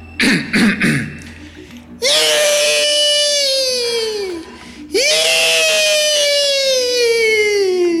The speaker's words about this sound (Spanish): ¡Y! Lo dejo con mi grito de terror.